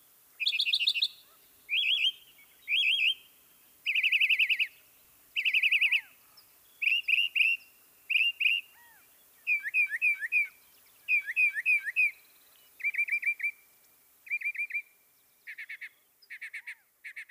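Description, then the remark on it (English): A male mockingbird sings alone, clear, repeating each short phrase two or three times before switching to a new one, the varied chirps and whistles following in a steady, rhythmic sequence. “Often while perched at the top of a tree or bush, the male sings each of his short songs a few times.”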